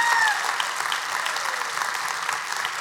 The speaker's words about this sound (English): The reason you're not clapping is because you don't know what a co-pilot is. So would you go ahead and give God a hand of praise, please?